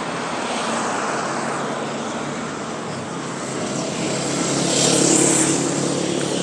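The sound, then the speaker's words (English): A double-decker bus passes by, its broad engine rumble and road roar steady at first, then swelling louder near the end as it goes past. No one speaks. “There's lots of buses. Lots of buses as well.”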